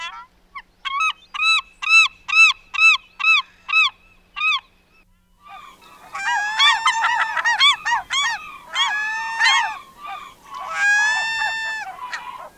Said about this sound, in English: These are birds that you're likely to hear if you are near the water here in Vancouver today. Let's start off with the classic glaucous-winged gull.